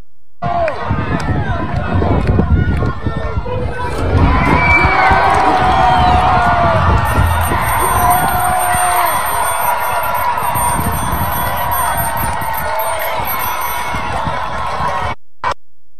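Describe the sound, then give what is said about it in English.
A large crowd cheers and shouts continuously as it tears down a statue of Union general Ulysses S. Grant, a dense roar of many voices with whoops and yells rising from about four seconds on, staying loud until an abrupt cut near the end. “That's a massive crowd tearing down a statue of the Union general who won the Civil War for the North, and the crowd cheering.”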